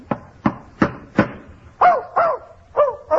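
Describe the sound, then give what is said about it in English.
A dog named Fletcher, kept in a hotel room, barks eight times in quick succession with no voices: four short, sharp barks, then four longer, higher-pitched yappy barks. “Oh, look, I hate to interrupt these mental acrobatics, but if Mr. Burke, the manager of the hotel, finds that dog in here, you're going to be in trouble.”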